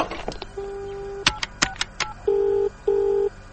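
telephone being dialed

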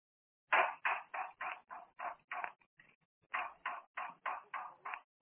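knocking

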